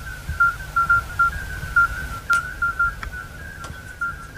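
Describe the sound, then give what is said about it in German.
Faint, high-pitched beeping tones repeat in quick, uneven pulses, echoing around the Rodenbach quarry north of Frankenberg in the evening, over a low background rumble, with a few sharp clicks in between. No one speaks. “Man hört ganz leise Pieptöne, die aus allen Ecken zurückhallen.”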